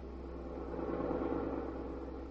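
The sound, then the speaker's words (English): The engine of Pete's car drones steadily as if heard from inside the cabin, a low, even rumble with a faint hum that swells slightly midway, with no voices. “Suppose we listen in on the conversation that is going on in Pete's car.”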